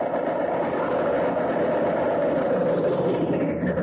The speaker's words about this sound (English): Let's get going to Washington. I can hear our train pulling at the Union Station right now.